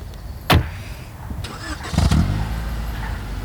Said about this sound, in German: blickte dem davonfahrenden Wagen nach.